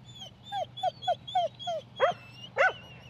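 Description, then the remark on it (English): Farm dogs (sheep and cattle dogs) bark at the Mayfield A&P showgrounds in Mid-Canterbury, where the 66th annual Ashburton dog sale is about to happen: a quick, steady series of short, high yips, then two louder, fuller barks over a low background rumble. “find out what hard-working farm dogs are worth and who is buying and selling them”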